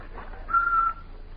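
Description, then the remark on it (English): A person whistles a single clear, steady note that holds for about half a second, then fades, over quiet background noise with no talking. “Whistle while you work.”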